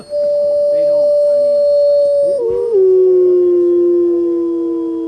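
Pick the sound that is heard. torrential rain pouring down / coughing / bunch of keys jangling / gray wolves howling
gray wolves howling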